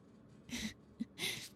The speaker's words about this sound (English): Hey, are you breathing weird or is that me?